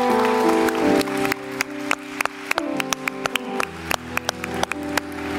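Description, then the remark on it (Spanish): An audience applauds the grandparents, who stand up on grandparents' day, over steady, sustained musical tones, starting as a dense wash of clapping before thinning into scattered, sharp individual claps. “A ver, le damos un aplauso, hoy es el día de los abuelos.”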